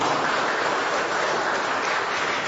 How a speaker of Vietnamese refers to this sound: Này, công trình của cha xứ chúng ta, một tràng pháo tay để chúng ta cảm ơn cha xứ.